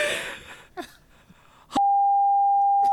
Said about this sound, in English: Can I beep that out? Yes, you can beep that out.